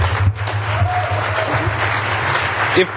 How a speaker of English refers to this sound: Let's particularly give them a big round of applause, because I'm given to understand not only is this their first presentation, but they really kicked butt, don't you think?